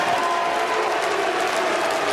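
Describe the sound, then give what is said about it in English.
A large convention crowd roars with mixed cheering and booing as Mitt Romney is introduced, a dense, steady wash of loud voices and some clapping that holds unbroken for about two seconds. “If you listen carefully, you could see there was probably about 60-40 cheers, boos to cheers.”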